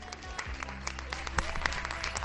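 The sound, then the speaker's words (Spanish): Steady applause for healthcare workers from many people clapping on balconies in Valencia in the rain, a dense crackle of overlapping claps with a few sharper, louder ones standing out, over a low continuous hum. “Ovación, buena ovación aquí en Valencia, una vez más para todos los sanitarios escuchados de fondo.”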